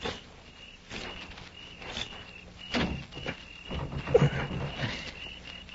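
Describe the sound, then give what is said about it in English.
A bolted door is tried and rattled against its bolt in a few short, knocking jolts, over a steady background of chirping insects at night. “I'm going to try the door.”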